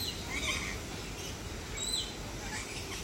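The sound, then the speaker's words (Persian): A few faint, short bird chirps, spaced irregularly, rise above a steady outdoor background hiss among trees and flowers by a wooden bridge, as someone sets out to photograph the birds. “من باید میتونم این پرنده ها عکس میگیرم.”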